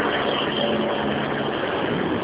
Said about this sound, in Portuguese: Peraí, que tá passando o caminhão aqui na minha frente.